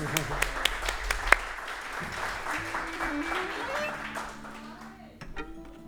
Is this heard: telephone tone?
no